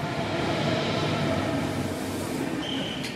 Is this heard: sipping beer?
no